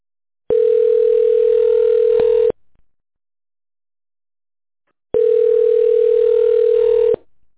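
telephone ringback tone

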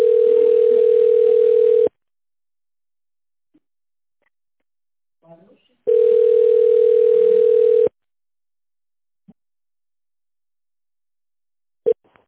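phone ringback tone

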